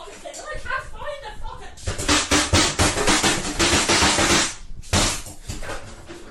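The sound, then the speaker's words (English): A fist pounds a sink in a rapid, loud burst of harsh metallic bangs lasting a few seconds, then a brief pause and a few more hits, with voices and chuckling around it. “Punching a sink because of your fucking soup.”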